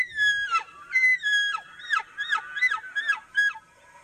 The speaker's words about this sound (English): Damn. They scream at each other like that. That really loud one was the guide right next to us with the call. That's one of them screaming. Damn. That was an elk. How weird, right?